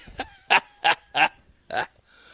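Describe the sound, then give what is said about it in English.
A caller's new puppy yaps four times over the phone line in quick, uneven succession, each bark short and sharp, heard on its own with no one talking over it. “so all right, well, she's taking the dog.”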